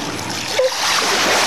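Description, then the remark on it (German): Water splashes and rushes steadily as a boat runs aground, growing louder and fuller partway through, with a brief scrape-like tone near the middle and no voices. “Achtung, festhalten, wir laufen auf.”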